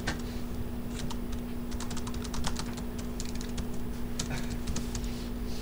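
Rapid, irregular clicking of keys on a computer keyboard as someone types out a notation, with bursts of keystrokes over a steady low electrical hum and no voices.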